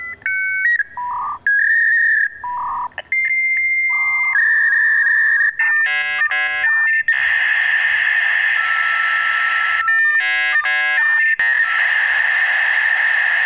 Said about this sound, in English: My God, that's a long modem. I was just going to say, that takes a long time to connect.